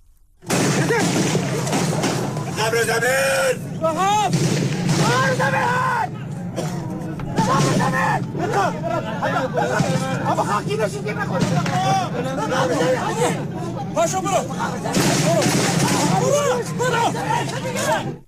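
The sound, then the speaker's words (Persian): A loud, distorted phone recording, made by an attendee, of gunfire during a deadly morning armed attack on a parade ceremony, attackers firing from a park behind the stand: sharp bursts of shots crack out repeatedly over a crowd of panicked, shouting voices, with the commotion continuing throughout. “تیراندازی رو مهاجمان از پارکی پشت محل جایگاه برگزاری مراسم آغاز کردن به سوی جایگاه و خبرگزاری فارس تصاویری رو از واقعی حمله مسلحانه مرگبار صبح امروز منتشر کرده که به گفته اون خبرگزاری یکی از حاضران با گوشی همراهی ضبط کرده که بخشی از اون رو میشنویم.”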